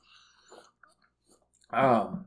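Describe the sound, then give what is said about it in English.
A short, quiet slurping sip of Sprite soda, wet mouth sounds and clicks following, then a burst of loud voice at the end. “Slurp that Sprite. I'm sorry, I took a damn sip!”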